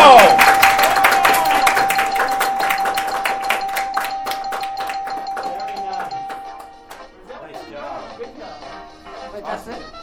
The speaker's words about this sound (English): Give a round of applause one more time. Nice job.